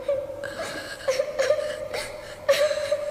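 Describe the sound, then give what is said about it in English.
A child cries in a thin, high, sustained whimpering wail, with sobbing swells that pulse roughly every half second, moderately loud, with no talking. “Someone crying. A child crying?”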